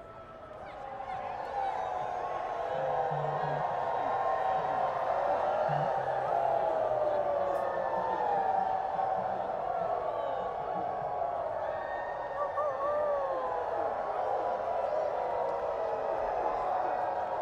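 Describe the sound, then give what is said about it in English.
A large audience hollers and howls together at the full moon for a sustained stretch, many voices rising and gliding in long wavering wolf-like howls that swell within the first two seconds and stay loud throughout. “Happy full moon. If I'm not mistaken, holler at it for us.”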